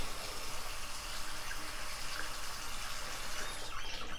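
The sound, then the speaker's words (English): Water is poured for someone to drink in a steady, continuous stream, even in loudness throughout, with no voices. “Okay, I'm just gonna give you some water, okay?”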